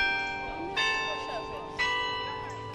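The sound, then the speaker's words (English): Bell tower chimes of Denny Chimes, a University of Alabama landmark, ring out in slow succession, three loud strikes about a second apart, each leaving a rich, lingering hum that overlaps the next. “Dozens of supporters of same-sex marriage gathered near Denny Chimes to take part in a candlelight vigil last night.”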